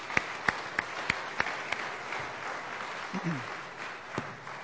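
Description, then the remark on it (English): Church audience applause for the tech team: a handful of sharp, evenly spaced claps stand out at first over a soft wash of clapping, which thins out while a few voices murmur briefly. “Let's give them a round of applause back there.”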